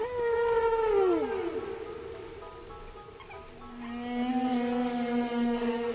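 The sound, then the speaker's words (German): Whale song: long, harmonic moaning tones that slide downward, then give way to a steadier, lower drawn-out call, all over a soft, hissing wash of background noise. No one speaks. “Also nicht von Hunden oder Katzen, die bellen und miauen, sondern von Vögeln oder auch Walen, die richtige Töne und Melodien von sich geben können.”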